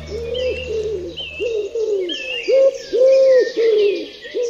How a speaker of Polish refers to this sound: I taką grupą ptaków są gołębie. No bo oto mamy w mieście możliwość spotkać trzy gatunki. To jest gołąb miejski, to jest sierpówka, zwana inaczej synogarlicą turecką albo cukrówką, i to jest grzywacz.